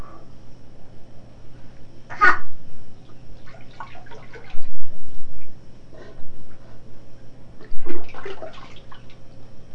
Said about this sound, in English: Potty. Splash in the potty.